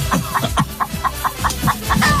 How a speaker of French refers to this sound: Sortez les poulets ! La famille, c'est Chicken Run.